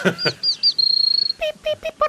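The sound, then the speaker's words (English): Crimson chat, a small bird, calls: thin, high whistled notes run into a fast, even, buzzing trill, then several short, clipped calls repeat at a steady pace, clear. “I reckon there is practically an invasion of these little crimson chats. This is what they sound like.”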